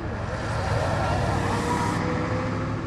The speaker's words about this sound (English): This is where the Egyptians first arrive in Jordan, a chaotic ferry terminal in Aqaba, a port on the Red Sea. Thousands of people pour off the boat, carrying enormous suitcases and parcels. Taxis and buses vie to take them to Amman and other cities.